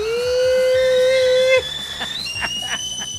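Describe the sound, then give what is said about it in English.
A voice imitates a teapot whistling as its water starts to boil: a steady, loud, shrill tone holds for over a second, then jumps to a thinner, higher whistle that fades against a faint background clatter. “And it's like a teapot, you know, whistling because the water's just starting to boil.”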